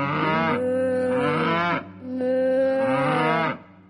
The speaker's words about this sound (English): I took a walk to town one day and met a cow along the way. What do you think that cow did say?